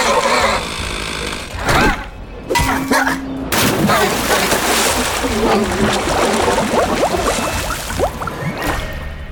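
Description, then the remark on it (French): A video game chainsaw, wielded by a chainsaw mutant, revs loudly and steadily, its harsh buzzing churning amid chaotic crashes and action noise, with a few sharp bursts near the start. “C'était le retour passe, de l'homme tronçonneuse.”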